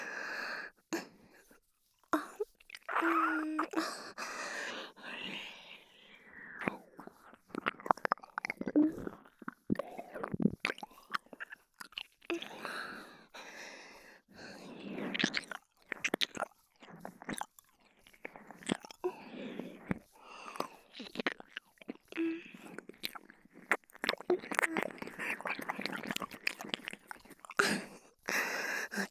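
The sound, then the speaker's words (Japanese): Wet, close-up ear-licking mouth sounds: soft smacks, slurps and sticky clicks in uneven bursts, continuing steadily throughout at a quiet, intimate level with brief pauses between clusters. “これが気持ちいいんですか？耳をペロペロされるのがいいと。”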